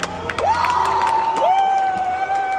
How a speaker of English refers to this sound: Now that roaring applause, I don't know if they were applauding that he was done and he was kicked off the stage, or if they were applauding that he brought correction.